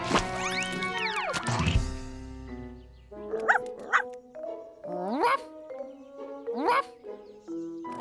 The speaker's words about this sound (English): What was that? That? Oh, that was the little old lady with the dog that wheezed.